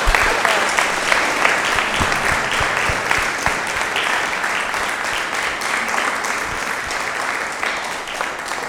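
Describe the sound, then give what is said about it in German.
An audience at an evening church service applauds the trombone choir's opening piece steadily for several seconds, a dense, even patter of many clapping hands at a fairly loud level that stays constant before easing slightly near the end. “Da war eigentlich Luft für Applaus, oder?”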